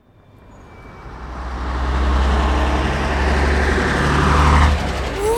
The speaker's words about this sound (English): Wow! Look at that old bus. People travelled by bus.